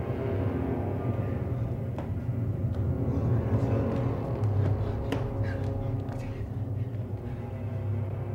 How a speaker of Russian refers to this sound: Шалаш на краю степи. Буря продолжается.